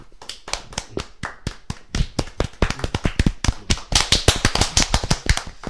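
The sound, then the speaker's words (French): Crisp applause from a small group, with separate sharp claps that start sparse and grow denser and louder toward the end. No one speaks. “Donc voilà, c'est donc un tonnerre d'applaudissements”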